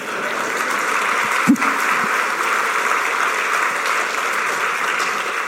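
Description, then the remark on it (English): An audience at a council meeting claps steadily during a speech, a dense wash of many hands holding at an even loudness for several seconds, with a brief thump partway through and no one talking over it. “I heard somebody clapping.”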